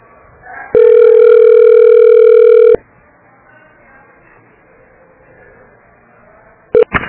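Telephone call transfer tones: a loud, steady electronic tone holds for about two seconds, followed by a quiet line with faint background murmur, then a brief tone blip right at the end.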